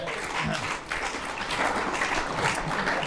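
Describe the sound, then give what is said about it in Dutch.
Applause from a group of people, a steady dense crackle of many hands clapping at once, sustained and fairly loud throughout with no talking over it. “Ja, applaus voor jezelf!”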